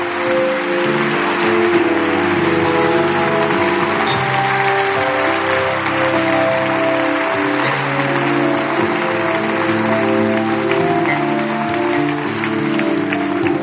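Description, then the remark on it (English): An audience in Augusta claps steadily and loudly for the whole stretch as people come forward from all over the building, a dense wash of hand clapping over sustained organ or keyboard chords, with no clear voices on top. “Give them a hand clap as they come, people.”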